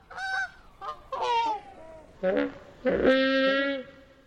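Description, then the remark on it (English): A series of mournful, drawn-out Brachiosaurus calls from the film Jurassic Park, made by sound designer Gary Rydstrom from slowed-down goose honks: rich, buzzy wails with wavering, sliding pitch, the final call loudest and longest, with short pauses between. “To create these mournful calls from the Brachiosaurus, sound designer Gary Rydstrom slowed down the honks of geese.”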